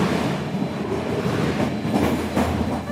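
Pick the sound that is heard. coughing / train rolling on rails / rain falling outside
train rolling on rails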